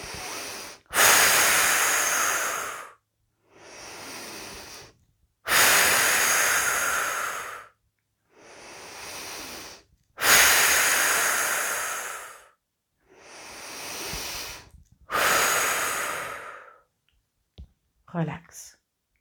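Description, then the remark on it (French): Slow, deep breathing during a relaxation exercise, with fingers resting on the navel during exhalation, in a steady rhythm, with louder airy exhalations alternating with softer inhalations over about four cycles, ending with a brief faint click. “Et à chaque expiration, nous nous libérons des tensions qui pourraient demeurer dans notre sixième espace.”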